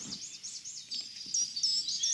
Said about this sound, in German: Ich höre jetzt einen Vogel, hör mal.